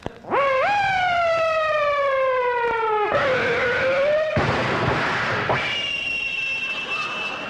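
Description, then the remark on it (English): A recorded cops-and-robbers sound played at 3 a.m. in a residential area: a loud siren wail rises and slowly sinks, then abrupt crashing bursts of skidding brakes and gunshots, ending with a thin, high whining tone of a ricocheting bullet, without talk. “The sound of cops and robbers, sirens, skidding brakes, gunshots with ricocheting bullets.”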